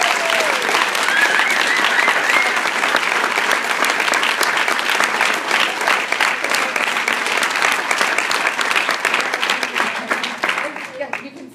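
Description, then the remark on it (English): A large audience breaks into sustained applause for a deacon who has just given a talk, dense rapid clapping that holds steady for several seconds before gradually thinning out, with faint voices and a few cheers mixed in. “So we can give him a big round of applause.”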